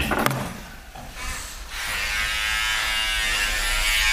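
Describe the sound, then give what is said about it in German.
A small electric trimmer used to trim eyebrows starts with a click and then buzzes steadily, a continuous high-pitched whir with dense harmonics that holds for several seconds without talk. “Machst du nochmal hier Augenbraue?”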